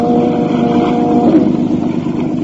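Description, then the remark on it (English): A motorboat engine runs steadily on a river on a dark, moonless, foggy night, a loud, continuous low drone with a humming, slightly wavering tone. It holds throughout with no talking. “As I was easing my boat toward what I thought was the shore, the motor quit.”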